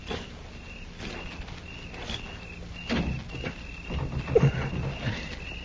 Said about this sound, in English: It's shut, all right. I'm going to try the door. If it opens, flip a couple of shots in.